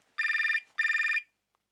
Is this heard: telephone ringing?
yes